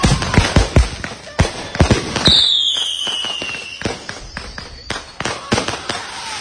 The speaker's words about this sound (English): Now, granted, those are pretty loud fireworks. They are loud.